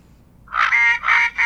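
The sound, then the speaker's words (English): A loud, nasal duck call sound effect blares out in three quick quacks, the first rising and the next two flat and buzzy, with no talking. “The duck hunters that are driving, they get this.”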